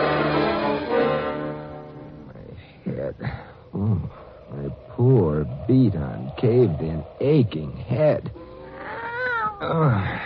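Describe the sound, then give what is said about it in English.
A cat lets out a loud, drawn-out meow near the start after being stepped on, followed by a voice talking over the next several seconds. “I'm sorry I stepped on you, Kitty.”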